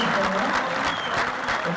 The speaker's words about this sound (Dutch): In de zaal werd er een beetje meegeklapt en een beetje meegezongen.